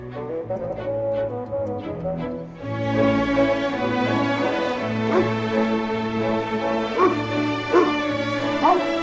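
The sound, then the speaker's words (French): Dogs, including two huge black dogs, bark and whimper as they greet visitors at a mobile home, in a continuous, overlapping chorus, with sharp yips and higher whines rising above a steady, noisy background, growing denser after the first few seconds. “Les chiens.”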